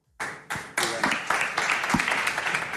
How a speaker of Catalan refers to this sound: no sé si els aplaudiments seran per tu, per la darrera pregunta, o...